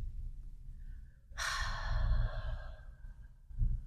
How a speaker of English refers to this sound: And then I would invite you to seal the practice with another deep breath, just taking in your intention for the day and breathing out.